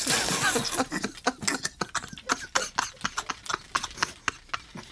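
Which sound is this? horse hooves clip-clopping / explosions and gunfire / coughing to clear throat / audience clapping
horse hooves clip-clopping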